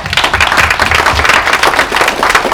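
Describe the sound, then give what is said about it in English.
A church audience claps together in a dense, steady wash of applause, many hands overlapping into continuous loud patter with no pauses and no voices standing out. “Let's clap our hands.”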